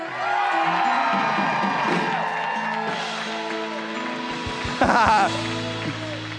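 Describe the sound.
A large church audience cheers and whoops steadily for its pastors while clapping swells, with a burst of louder claps and shouts near the end; scattered voices call out throughout.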